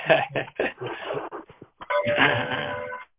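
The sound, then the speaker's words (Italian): Bells ring at seven o'clock in the evening in a series of clanging strikes, then settle into a sustained, shimmering peal that hangs for about a second before cutting off. “Ci colleghiamo sempre quando suonano le campane.”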